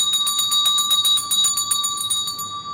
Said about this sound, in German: Mal schauen. Ich klingel mal schnell.